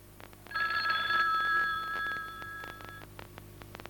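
A telephone rings with a bright, sustained electronic trill from about half a second to three seconds, loud, then fades into faint background clatter. No one speaks.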